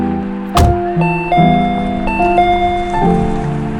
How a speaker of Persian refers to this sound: رسیدیم، یادش رو زنگ در رو بزن، ماشین رو پارک کنم بیا.